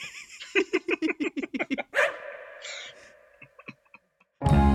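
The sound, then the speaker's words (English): A dog barks in a quick run of about ten short, high yips, then gives one louder, fuller bark that trails off; a brief burst of noise cuts in at the very end. “Put another bark here.”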